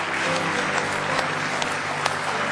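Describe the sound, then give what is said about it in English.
An audience claps hands in praise of Jesus, a dense, steady wash of many hands applauding together at full volume with a few sharper claps standing out, and no voices heard. “Let's give Him a real good hand clap of praise if you love Him tonight.”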